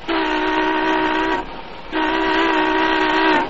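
car horn honking

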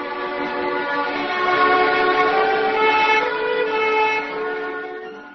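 train

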